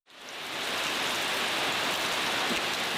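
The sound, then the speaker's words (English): Steady rain falls in a dense, continuous hiss, swelling in quickly and holding loud with fine scattered drops and no voices, soaking what is left of the ruined EYN Church in Michigan, Nigeria. “Rain soaks what is left of the EYN Church in Michigan.”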